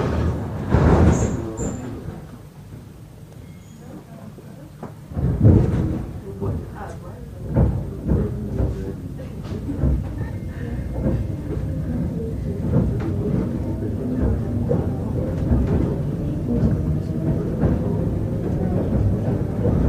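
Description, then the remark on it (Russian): Russian electric commuter train doors bang shut with a couple of heavy thuds, then an electric motor whine rises steadily as the train pulls away, with a voice announcing the next stop, Dmitrov, and warning that the doors are closing. “Следующая остановка Дмитров. Осторожно, двери закрываются.”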